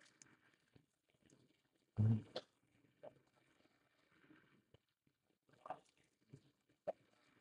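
A pigeon's low, throaty coo swells loudly once, then fades into quiet stretches broken by a few faint, brief sounds.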